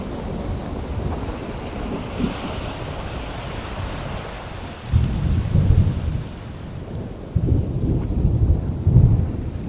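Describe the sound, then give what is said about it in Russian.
A storm on the open sea roars around a ship with steady wind and rushing water, and two deep, rolling thunder rumbles swell up one after another in the second half. No one speaks. “Он пережил не одну бурю в открытом море и знал, что нужно делать в это время.”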